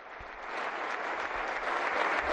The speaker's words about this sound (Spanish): Gracias, Leo, por todo lo que nos has dado. Gracias. Bueno, la ovación final para Leo Messi.